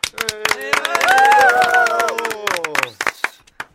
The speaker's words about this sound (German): Und jetzt der 2. Platz. Die Gewinner des 2. Platzes heißen die Froschs. Applaus für unsere Jüngsten,